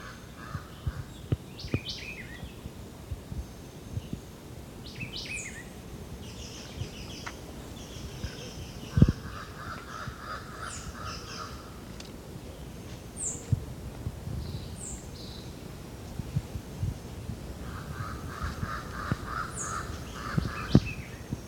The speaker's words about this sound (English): Jabbering crow.